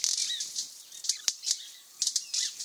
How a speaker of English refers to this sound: With loud wing snaps, a flurry of males flit rapidly back and forth from one slender, bare sapling to another. It's like a busy avian pinball game a foot above the ground.